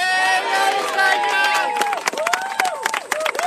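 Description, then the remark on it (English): A large crowd of Queensland Labor party faithful cheers and whoops loudly and continuously at Anastasia Palaszczuk's day-16 campaign rally in Brisbane's north, with bursts of clapping and shouted voices rising above a dense, roaring wall of noise. “Anastasia Palaszczuk began day 16 of her campaign with Queensland Labor's party faithful at a rally in Brisbane's north.”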